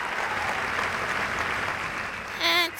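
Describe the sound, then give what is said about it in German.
A dense, steady wash of loud applause from a large audience after a Haydn symphony fills the whole stretch. Near the end a shrill, warbling squawk from Sweetie, hidden under a cape, briefly cuts through the clapping. “Und als die letzten Töne erklangen, brauste gewaltiger Beifall auf.”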